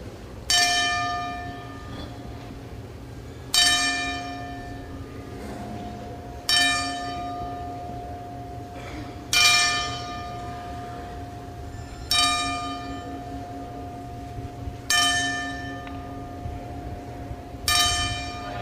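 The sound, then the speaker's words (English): A single deep bell tolls slowly and evenly as a ten-bell salute, about seven strikes roughly three seconds apart, each ringing out and fading before the next. No voices, just the solemn clang and its lingering hum. “And now, for a career cut way too short, here are the 10 bells.”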